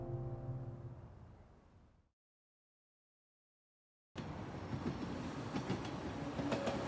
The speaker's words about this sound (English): A train moves slowly along its track.